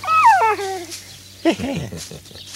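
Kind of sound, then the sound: animal, dog whimpering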